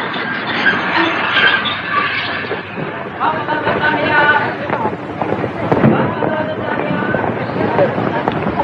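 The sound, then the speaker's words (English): An underground train approaches a station, a steady, loud rumble with dense metallic clatter and squealing tones continuing throughout, the noise holding fairly even without fading away. “The train is approaching a station.”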